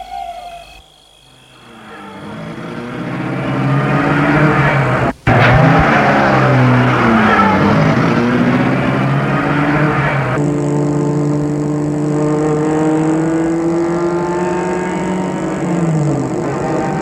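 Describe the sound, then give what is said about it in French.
A car engine turns over and revs up as a man gets into the car and starts it, then holds a loud, steady drone with shifting pitch as the vehicle pulls away, with no one speaking. “Il retourne à la voiture, fait le mur, retourne vers la voiture, entre dans la voiture et la met en route.”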